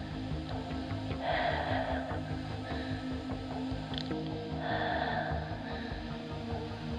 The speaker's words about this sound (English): Take a deep breath with me.